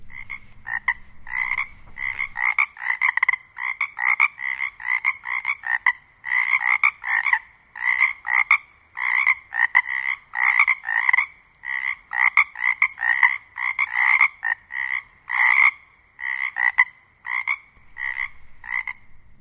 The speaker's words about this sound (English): That was the Pacific chorus frogs, and they're active right now, I'm sure. They're going full steam at Olympic.